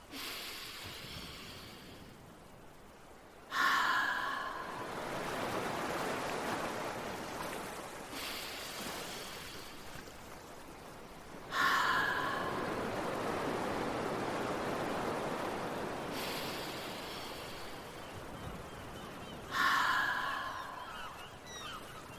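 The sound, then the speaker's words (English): Three slow, breathy whooshes like ocean waves, each starting with a brief throaty onset and swelling into a long, steady rushing exhale through the open mouth, evenly spaced. A person doing an ocean-breath breathing exercise, imitating surf. “Make a sound like the ocean. Nice work. I'll do 3 more ocean breaths.”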